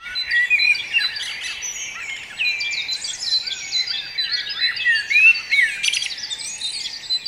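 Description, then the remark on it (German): Several blackbirds sing at once in a dense outdoor chorus, one especially prominent in the foreground, their warbling phrases overlapping continuously, with thin high calls of tits mixed in. No voices are heard. “Ja, man hört eindeutig die Amseln. Das sind auch mehrere.”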